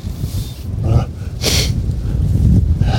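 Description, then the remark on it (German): A single short, forceful nose blow, a breathy honk near the microphone, set against a steady low rumble like the inside of a moving train or vehicle. “Schnäuz.”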